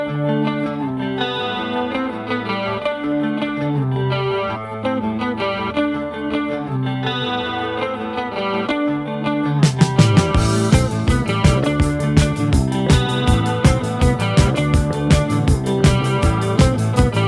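A new wave rock song plays with no vocals, opening on a chorused, effects-laden guitar riff before drums and bass crash in around the midpoint, driving a steady, punchy beat.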